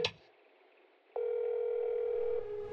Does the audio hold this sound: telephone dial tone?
yes